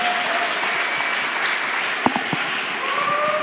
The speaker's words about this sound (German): So, damit kommen wir jetzt zu Ende. Vielen Dank euch beide. Ein großer Applaus.